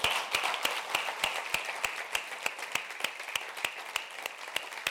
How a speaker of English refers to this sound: I want to appreciate it this morning. Should we give her a round of applause?